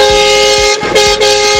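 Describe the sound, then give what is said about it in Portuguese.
A toy truck horn blares continuously and loudly, its bright buzzy tone holding steady with slight warbles for the whole stretch. “Conforme dá esse caminhão com essa buzina lá.”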